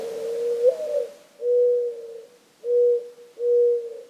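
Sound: mourning dove cooing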